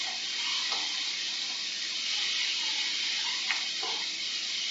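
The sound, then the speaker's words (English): Steady sizzling of pineapple frying in a hot pan for a stir fry, a dense crackling hiss that holds evenly throughout with a few faint pops and clicks, no talking. “So I can hear now that my pineapple is starting to fry. It's not simmering anymore, sizzling.”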